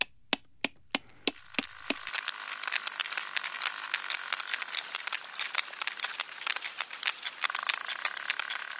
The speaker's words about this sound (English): Louder than a jet engine, Louder than a jet engine. And, of course, sonar, which is what they're using, is the only way of hunting the food. But it's not only for hunting. It's for communication as well that the sperm whales use use those clicks.